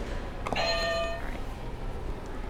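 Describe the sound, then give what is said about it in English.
A single short electronic buzzer beep from a buzzer being hit, a bright harmonic tone lasting under a second, sounds over a steady low background hiss, with no one speaking. “You can hit another buzzer.”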